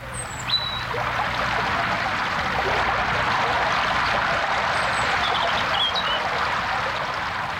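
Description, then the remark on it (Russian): Steady, broad rushing of many snowmelt streams running along furrows and ditches into gullies fills the air without a break, a soft but strong wash of falling water, with a few faint bird chirps high above. “Весь острый, чистый воздух был полон мягким и сильным шумом падающей воды.”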